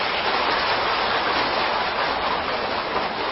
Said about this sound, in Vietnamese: Và tràng vỗ tay của các quý Phật tử đó thể hiện cái tính cam kết, mong quý vị nỗ lực cùng các thầy các sư cô làm sứ mệnh quan trọng bậc nhất này.